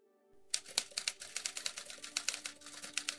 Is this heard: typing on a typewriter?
yes